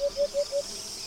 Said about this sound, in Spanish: Esta sensación de sequedad se ve subrayada por la habitual sinfonía estival que componen los sonidos de las chicharras.